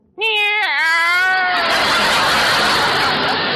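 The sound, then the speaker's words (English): A single loud meow from a female cat with a rising-then-falling pitch, quickly giving way to a continuous rushing wash of noise that lasts to the end. “Meow. Oh, great. Now she can spell.”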